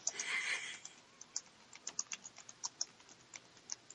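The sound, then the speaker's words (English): Irregular bursts of keystrokes on a computer keyboard, crisp clicks tapping out in an uneven rhythm, moderately quiet, with no talking. “Who's typing?”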